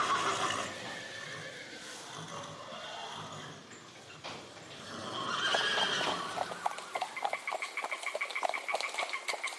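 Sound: horse neighing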